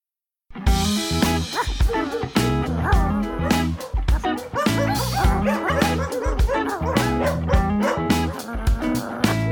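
dog barking and whimpering

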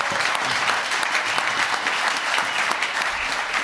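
thunderous applause

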